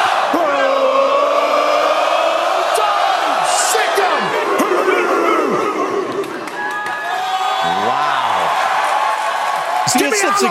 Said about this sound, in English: Give me Alabama, he says, after giving the chant to Georgia. but it's getting the crowd involved in it. It's fun, man. It's become a production. It's become an event.